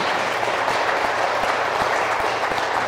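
A crowd applauds steadily, a dense, continuous wash of many hands clapping at an even loudness for the whole few seconds, with no voices standing out.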